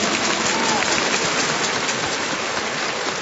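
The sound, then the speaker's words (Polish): Audience applause, a dense and steady wash of many hands clapping at once, loud and sustained for the full few seconds without a break or any voices, welcoming Radio Maryja listeners at the archdiocesan rosary congress in the Archcathedral Basilica of St. James in Szczecin. “Ich przywitajmy gorącymi oklaskami.”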